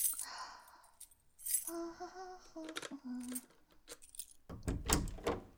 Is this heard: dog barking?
no